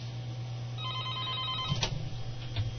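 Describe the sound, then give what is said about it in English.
A telephone rings once in a short electronic trill as a call comes in to the Free Radio call-in show, then a click follows as the line is picked up and answered, over a steady low hum with no one speaking. “I'm going to get into it just as soon as I answer this phone call.”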